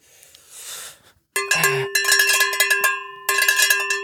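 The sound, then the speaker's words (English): A handheld beer bell marked 'ring for beer' is shaken hard in two loud bursts of rapid metallic clanging, with chips of metal flying out of it and its bright ringing tones sustaining between strokes, after a soft rustling at the start. “it's my beer bell. Does it work? It says ring for beer.”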